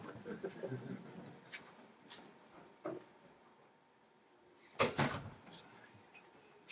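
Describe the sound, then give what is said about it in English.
A door swings shut with a single solid thump and a brief rattle, following a few softer knocks and shuffling sounds in otherwise quiet surroundings. “Let me explain what that means after I close the door there.”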